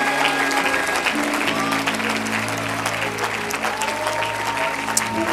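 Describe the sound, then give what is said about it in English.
An audience claps hands in praise of Jesus, dense sustained applause for several seconds, with sustained organ or keyboard tones underneath and faint voices mixed in. “Let's give Jesus a great big hand clap of praise.”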